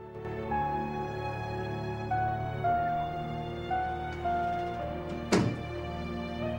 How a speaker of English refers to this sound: Mari turns at the sound of the door shutting.